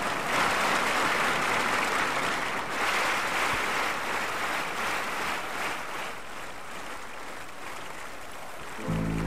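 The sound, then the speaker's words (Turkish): An audience at a Turkish music concert applauds steadily as a singer is called onto the stage, a dense wash of clapping that holds at an even, fairly loud level throughout with no voices standing out, then shifts briefly at the very end. “Evet, sizler alkışlıyorsunuz ve ben şöyle sesleniyorum.”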